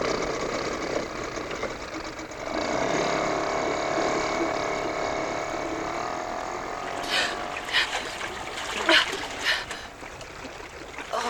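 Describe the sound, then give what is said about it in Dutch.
A motorboat's engine is started and drones with a sustained mechanical hum as the boat sets off, joined partway through by splashing, rushing water bursts as it moves across the surface. “Motor aan en daar gaan we.”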